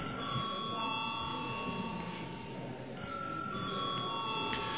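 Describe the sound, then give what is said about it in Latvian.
A parliament voting call bell, rung before a vote on a bill amending the remuneration law for state and municipal officials, rings steadily and loudly, a continuous electric tone that briefly drops out near the middle before resuming, with faint murmur underneath. “Paldies, lūdzu zvanu.”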